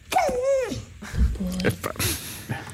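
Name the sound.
dog whining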